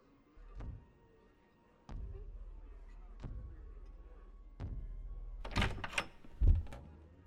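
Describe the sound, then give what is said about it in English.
Four slow, heavy knocks on a big kitchen door, each a deep hollow thud spaced over a second apart, followed by a brief burst of louder clunks and rattling near the end. “Head on back to the kitchen. Knock, big door, can't miss it.”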